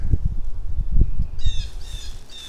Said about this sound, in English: Another blue jay. In the owl zone.